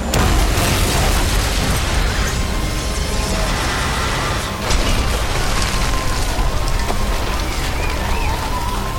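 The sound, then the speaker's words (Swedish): A dull, muffled thump as a man on a rooftop fires a large shoulder-carried tube at a low-flying helicopter near a hotel roof, followed by a loud explosive blast, set within a dense, continuous rumbling roar that persists throughout. No one speaks. “Sen hör du ett dovt ljud. Och sen en explosion.”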